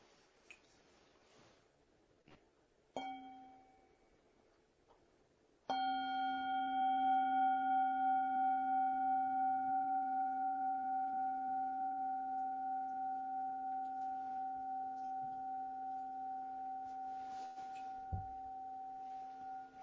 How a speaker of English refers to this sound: So thank you very much. I want to offer us one bell.